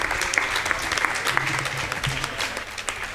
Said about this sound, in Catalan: ha estat un autèntic plaer tenir-te també aquí a la fira. Moltíssimes gràcies. Un aplaudiment.